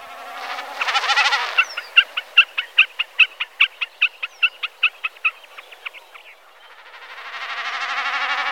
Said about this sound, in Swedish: Allt ackompanjeras av enkelbeckasinens bräkande.